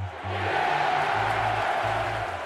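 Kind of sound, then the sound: crowd, stadium crowd roaring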